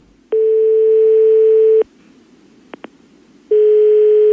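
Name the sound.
telephone line tone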